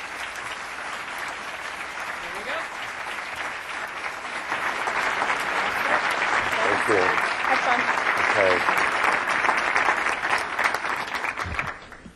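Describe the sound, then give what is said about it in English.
Steady applause from a sizable audience welcoming the speaker Greil Marcus, dense clapping that swells after a few seconds and holds loud before cutting off abruptly, with faint voices mixed in. “Let's join me in welcoming him.”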